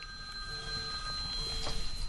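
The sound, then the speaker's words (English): A phone rings with steady electronic tones, sustained and fairly quiet against a low room hum, with no voices present. “We have a stray phone ringing.”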